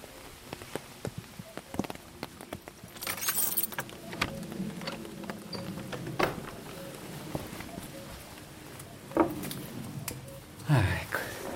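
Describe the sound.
Keys jangle and clink in a series of sharp metallic rattles while the door of a restored roccolo (bird-netting station) at 950 metres altitude is unlocked in the rain, with brief louder bursts, over a steady background patter and faint voices.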